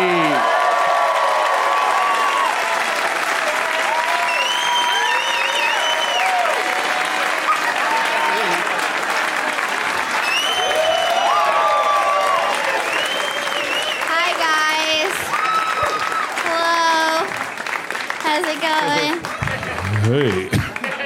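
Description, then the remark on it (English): A crowd applauds and cheers loudly and steadily for about twenty seconds as a lineup of guests is welcomed, with dense clapping, whoops and shouted voices layered over the continuous roar. “Please give a big welcome.”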